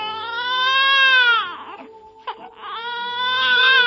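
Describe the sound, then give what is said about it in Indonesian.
A baby wails loudly in two long cries, with a brief pause to catch breath in between, and no other voices present. “Ketika beristirahat itulah, ia mendengar tangis bayi.”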